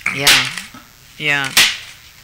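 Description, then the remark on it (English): Two sharp, loud slaps strike a man about a second apart, each crack preceded by a brief voiced grunt or exclamation. “There's a little good there's a good slap.”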